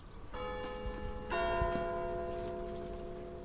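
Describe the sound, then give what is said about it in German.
Two strikes of a church bell in Ticino, the second about a second after the first, each ringing out with long sustained tones that overlap and hum on, over a soft background patter like light rain. “Die ersten 4 Jahre lang hast du den Klang einer Tessiner Kirchenglocke gehört.”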